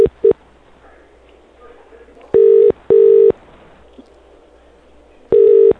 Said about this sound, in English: Okay, I'm ringing him now. Don't hang up, ma'am.